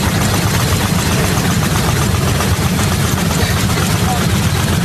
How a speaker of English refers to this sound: This is just the sound on this airplane of everything shaking. Oh, Those are all of the like tray tables and everything on the plane just violently vibrating.